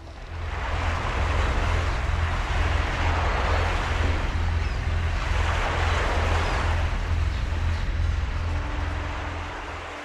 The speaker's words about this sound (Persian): زن روی تخت پاره کشتی نشست و امواج ملایم دریا آن تخت را حرکت داد تا به ساحل جزیره ای رساند.